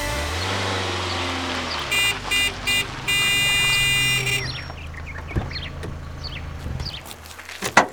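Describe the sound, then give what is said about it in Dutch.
A car horn honks three quick times at a slow-driving car, then lets out one long sustained blast, loud, over a low rumble of engine and road noise. “Dan hoorde je me niet toeteren.”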